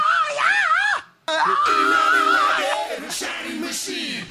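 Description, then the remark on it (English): A rock singer's loud, sustained high vocal shriek with a wavering pitch and a distinct second tone riding above it, broken by a brief gap before another strained, gritty scream continues. “Anyway, he does that in almost every one of his like high shrieks.”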